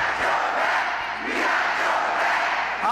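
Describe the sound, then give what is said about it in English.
About 2,000 supporters at a rally for President Biden in a packed school gym in Detroit, Michigan roar with steady, loud cheering and chanting, including "Don't you quit," a continuous wall of voices with no single speaker standing out. “2,000 supporters cheering President Biden in a packed school gym in the important battleground state Michigan.”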